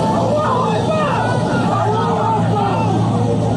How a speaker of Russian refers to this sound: Пожалуйста, сохраняйте свои места и не пытайтесь открыть двери самолета. На улице разъяренная толпа.